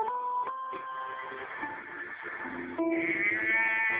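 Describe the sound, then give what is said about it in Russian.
A cow mooing in one long, loud call with a nasal, bleating edge, rising into a higher-pitched tone toward the end. No one speaks over it. “А по корове это означает мама.”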